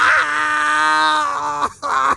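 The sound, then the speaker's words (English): A man, with two dozen poison needles embedded in his face, lets out a long, loud anguished scream of pain, held steady for nearly two seconds, then breaks off briefly before a second strained cry starts. “Well, screaming about it isn't going to help.”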